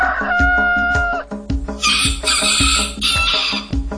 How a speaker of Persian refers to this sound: سه تا خروس دم صبح قوقولی قوقو میخونن.